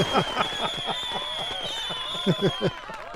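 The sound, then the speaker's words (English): A short burst of canned applause and crowd noise, busy and steady for about three seconds, with rapid overlapping bursts and a thin high tone running underneath before it trails off, played as a sound effect after a caller's correct quiz answer. “No, that was the applause for the fact that Mark Haney's on vacation.”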